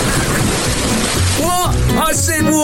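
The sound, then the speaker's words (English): Water sprays and splashes in a loud, steady hiss that fills the whole clip, with a voice calling out excitedly over it toward the end. “Go on, spray my face.”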